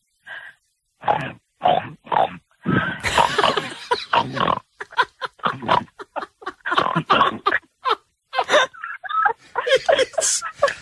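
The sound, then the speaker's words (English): A person imitates a pig, making a rapid series of loud snorting grunts in short bursts, followed by a quick run of choppy, snuffling oinks. “It's a pig, right? It's going to be a pig.”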